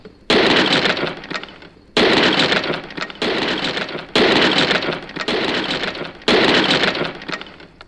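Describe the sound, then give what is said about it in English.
Five loud, heavy smashing crashes as a hammer smashes giants' skulls, landing one after another at uneven intervals, each followed by a crunching, rattling decay of debris, with no voices. “and he smashed all of the ice giant's skulls.”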